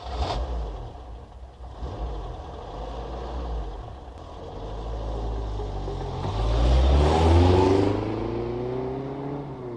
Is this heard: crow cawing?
no